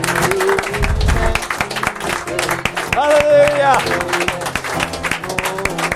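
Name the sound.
audience clapping in praise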